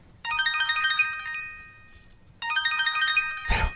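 phone ringtone

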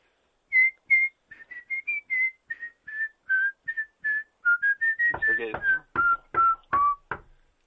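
person whistling a tune

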